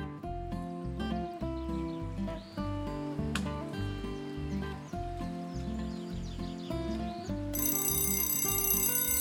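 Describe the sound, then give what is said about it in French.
A steady, rhythmic tick-tock melody plays, then near the end a loud, bright alarm clock bursts into continuous ringing in the morning, waking the boy Nino, with no voices. “Le lendemain matin, à peine le réveil sonne que Nino est déjà debout.”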